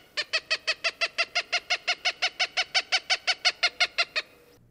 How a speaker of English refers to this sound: Or even the repeated caw, caw, caw of a cooper's hawk.